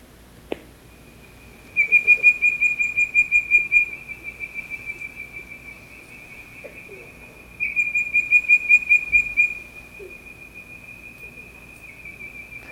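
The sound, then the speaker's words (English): Two bursts of rapid, pulsing whistled calls from a bird-voiced treefrog, each a bright repeated whistle that trails off, over a steady high insect-like drone and faint night background. “They sound like a bird call, hence their name. And I guess some folks have suggested they sound kind of like you're whistling for your dog.”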